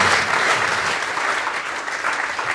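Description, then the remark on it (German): A pub audience applauds steadily, a dense wash of many hands clapping at an even, sustained loudness throughout, with no voices standing out. “Sie dürfen dann am Nachbartisch wieder Platz nehmen und die Kneipe darf nochmal Kneipengeräusche machen oder klatschen, wie sie möchte.”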